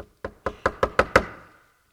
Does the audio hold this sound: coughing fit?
no